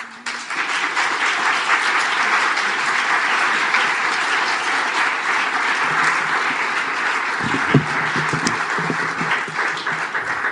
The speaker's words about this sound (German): Ja, jetzt habt ihr schon geklatscht.